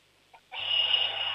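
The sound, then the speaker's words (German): A shrill electric doorbell, pressed by an 8-year-old boy, rings out abruptly after a brief silence, holding one loud, harsh, continuous buzz until the end. “Boah, das ist aber eine schrille Klingel, cool.”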